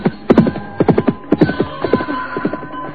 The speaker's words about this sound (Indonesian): dan binatang itu pun melompat, berlari kencang meninggalkan halaman rumah Rakeh Bangun